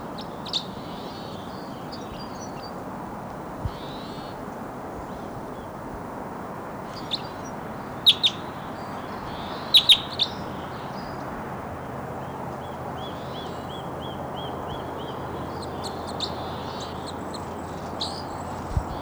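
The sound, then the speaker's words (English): Crossbill song in the wild from a bird at the top of a tall lodgepole pine snag: sparse, high, sharp chirps and short twittering phrases, rather faint over a steady hiss of background noise, with a few brief louder clicks midway. “Wild crossbow song.”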